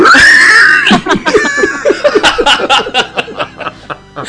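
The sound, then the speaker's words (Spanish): A short, high-pitched shriek rings out at the start, then breaks into a burst of rapid, pulsing laughter that continues loud for several seconds. “Se va a estandarizar tu gritito.”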